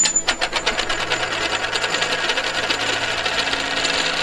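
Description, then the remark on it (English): A coin sold in an online store drops onto a hard desk with a sharp metallic clink, then spins and rattles in a rapid, ringing chatter that keeps going for several seconds. No one speaks. “Listen to this fall on my desk.”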